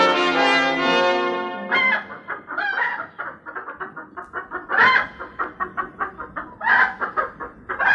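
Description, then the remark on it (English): Three French hens, delivered as a gift, cluck, opening with a long, drawn-out harmonic squawk, then a busy run of short, choppy clucks in an uneven rhythm, fairly loud, with no voices. “What an imaginative boy you are to think of sending me something as unusual as three French hens.”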